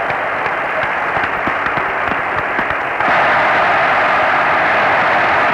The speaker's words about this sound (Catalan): El públic assistent aplaudint ara els companys de Ràdio Televisió de Cardedeu que ahir foren clausurades les seves instal·lacions.